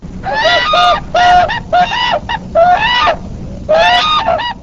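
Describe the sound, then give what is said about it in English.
Loud, bugling whooping crane calls ring out in a series of about six harsh, honking bursts with short pauses between them, over a low background rumble and no voices. “This winter, Colleen Sadisher recorded some of the birds' calls.”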